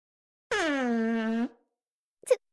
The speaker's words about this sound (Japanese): すみません、またおならが。